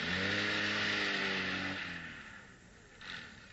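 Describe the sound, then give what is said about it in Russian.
A car engine hums steadily, then its pitch drops and the sound fades as the car is driven into a house's yard around midnight and slows, settling into a quiet idle-like rumble, with no voices. “Да я уже понял, давай загоняй машину во двор.”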